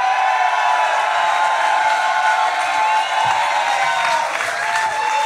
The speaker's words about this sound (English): And from Dad Meat, first time ever at Skankfest. Ladies and gentlemen, clap it up for Tim Butterly.